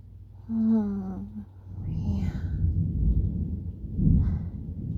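Deep, rolling thunder rumbles continuously through a stormy backdrop, swelling louder toward the end. A brief voiced hum sounds near the start.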